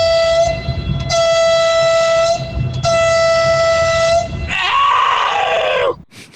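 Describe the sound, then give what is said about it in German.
A loud horn blares in three long, steady blasts with brief gaps between them, then gives way to a shorter, wavering tone before stopping abruptly. No one speaks. “Kann ich schon mal hupen?”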